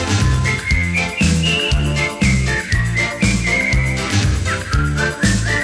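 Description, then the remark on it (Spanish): Someone whistles a bright, flowing melody, clear, over a steady beat with pulsing bass notes and full musical accompaniment. No one speaks. “Sí, cuando silbas el aire palpita.”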